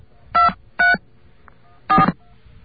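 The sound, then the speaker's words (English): Three touch-tone telephone key beeps as numbers are dialed on a phone line after a secondary dial tone, each a short steady dual-pitched tone. The first two come close together, then a pause before the third. They are fairly loud over faint line hiss, with no talking. “I don't think that's the same dial tone, so I'm going to dial some numbers.”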